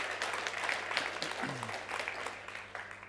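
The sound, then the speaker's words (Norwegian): An audience at a church service applauds steadily for about three seconds to welcome those watching on livestream, a dense, even patter of many hands clapping together, with a brief low voice murmur partway through. “Skal vi gi de som ser oss i dag på livestream velkommen? Applaus.”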